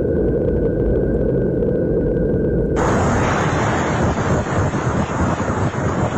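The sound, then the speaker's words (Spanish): Saturn's electromagnetic emissions, picked up by devices that capture electromagnetic frequencies, rendered as sound: a dense, steady roaring hiss with a thin whistling tone that abruptly jumps higher and brighter partway through. No voices are heard. “Así se oye Saturno.”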